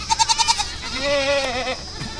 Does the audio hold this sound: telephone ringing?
no